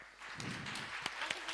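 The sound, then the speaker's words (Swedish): Scattered applause from an audience, soft, with a few sharper individual claps standing out over a diffuse wash of clapping. No one speaks. “Tack så mycket, en applåd.”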